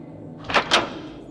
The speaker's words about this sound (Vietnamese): Không biết can đảm đến từ đâu, Hàn Băng kéo phắt cửa phòng ra.